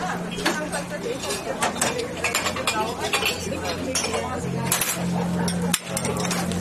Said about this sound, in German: Das Klappern der Tassen und Teller an den vielen Cafés an der Uferpromenade. Es ist heute hier richtig gut besucht.